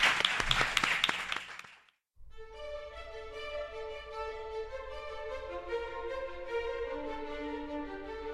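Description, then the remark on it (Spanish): A short burst of applause from a small group, for a guest at the end of an interview on the radio show Madrid Misterioso on Onda Madrid, fades out after about two seconds; after a brief silence, sustained music with steady tones begins and carries on. “un aplauso.”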